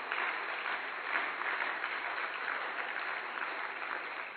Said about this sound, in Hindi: तो इनके लिए आप एक जोरदार ताली बजाएं।